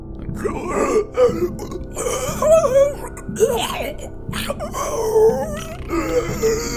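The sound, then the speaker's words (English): A voice imitates a monster spilling sludgy liquid, its sounds coming from its many puckering, expelling orifices: wet, gurgling groans and belching, burp-like expulsions, rising and falling in a continuous, pulsing stream of moans and squelchy throat noises for several seconds. “sludgy liquid that spills out of the top of it, splattering all over the front of it, all over the sides of it, as it continues to make this horrible sound from all of its various orifices that are puckering and expelling and widening and closing.”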